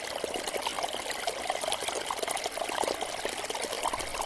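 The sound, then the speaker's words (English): Fast-flowing water rushes and gurgles over stones in a steady, busy stream, a continuous wash of bubbling sound with no voices. “It's fast-flowing water, rushing over stones, gurgling, brewing.”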